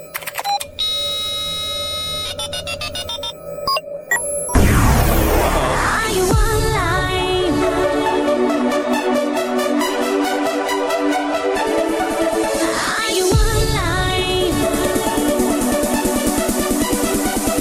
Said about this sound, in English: This song was apparently preloaded onto a bunch of Samsung phones back in 2005. What's worse than a pop song about the early internet? One that comes free and preloaded on a flip phone.